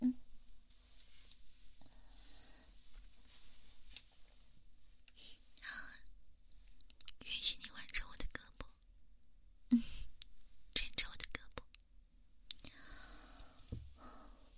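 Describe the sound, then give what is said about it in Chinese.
Soft keyboard typing in irregular bursts of clicks, with quiet whispering and occasional breaths between the keystrokes, as someone types while working. “但是别太用力呀，不能影响我打字，好吗？”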